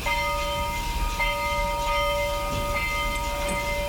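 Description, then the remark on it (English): The bell of a bus to town rings in a steady, unbroken tone that holds for the whole stretch, clear and fairly loud over a low background rumble, with no talking. “What is that bell for? That's the bus here to town.”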